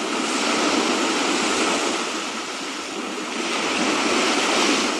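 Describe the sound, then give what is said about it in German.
Ocean waves break on the shore in a steady, full roar of surf that swells and eases slightly, loud, with no voices present. “Das Meer, das ist wilde Natur.”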